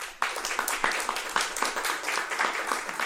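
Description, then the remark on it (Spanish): An audience breaks into sustained applause for a speaker being introduced, many hands clapping in a dense, crackling wash that starts abruptly and holds steady for a few seconds. “Pido un fuerte aplauso, por favor.”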